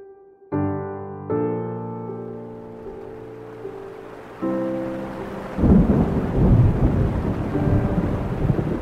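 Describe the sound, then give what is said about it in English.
Sustained musical chords give way to a loud thunderstorm, with deep rolling thunder and steady rain filling the last few seconds; no one speaks. “That thunderstorm was so, I don't know how to say, it was so strangely beautiful that it was eerie.”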